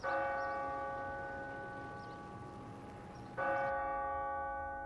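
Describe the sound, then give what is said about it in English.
A church bell tolls twice at a memorial service in New York, each deep, resonant strike ringing out and slowly fading before the next one lands, loud and alone with no voices. “Five bells for the 5 years of sorrow.”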